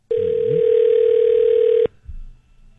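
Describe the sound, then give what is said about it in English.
A single steady electronic telephone ring tone, placing a prank call to a morning radio show in Calgary, sounds for nearly two seconds, loud and clear, then cuts off abruptly, leaving a faint low rumble and quiet background. “We decided to prank phone call them.”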